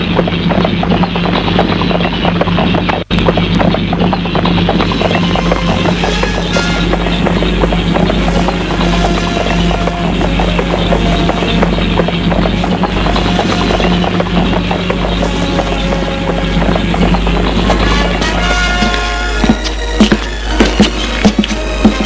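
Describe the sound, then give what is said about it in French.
Horse hooves clip-clop in a steady, continuous rhythm, fairly loud, with a low background rumble; no one speaks, and the pattern changes near the end. A woman rider takes her horse and rides back home. “Et Claire reprend son cheval et s'en retourne.”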